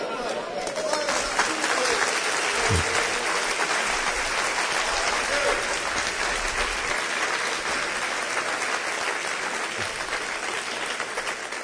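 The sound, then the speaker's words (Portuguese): Sustained applause from a large crowd responding to a preacher's sermon, dense and steady clapping filling the whole stretch, with a few faint voices and cheers mixed in. “Vocês aplaudiram porque eu gritei?”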